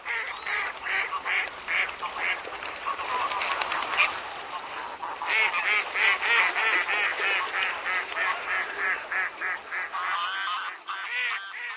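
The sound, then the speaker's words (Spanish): A flock of wild geese and ducks call continuously, honks and quacks overlapping in a dense, steady chorus at moderate loudness, with no voices present. “En los inviernos cálidos como el del presente año, permanece en el territorio checo un mayor número de garzas, patos silvestres, gansos bravos y gaviotas.”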